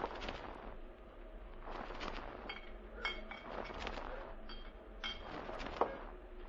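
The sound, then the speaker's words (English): Glasses clink a few times against a steady rustle of Scotch whisky being poured and bottles handled, moderately loud, with no talking. “I'm afraid I've only got one glass left that's been put in boiling water.”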